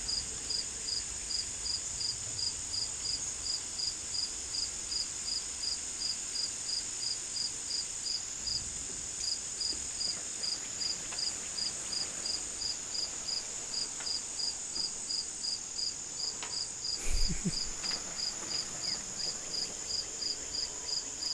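Crickets chirp steadily outdoors at Crystal Woods in a continuous, even pulsing trill, with a faint background hush and a brief soft rustle near the end.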